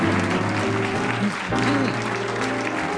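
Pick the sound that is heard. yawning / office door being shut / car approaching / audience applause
audience applause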